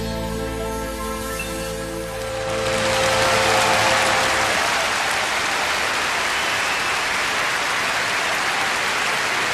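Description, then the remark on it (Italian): A sustained musical chord fades out and gives way to scattered, fairly weak applause from a concert audience for Italy's entry, a steady patter of clapping that continues without cheering. “Een vrij zwak applaus voor Italië”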